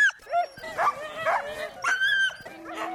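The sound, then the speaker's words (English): A sled dog team at Wolfsong Adventure yips, whines and barks excitedly, their high, overlapping cries coming in quick bursts for the whole stretch. “how to ride on the back of a sled at 12 miles an hour with eight dogs pulling as one.”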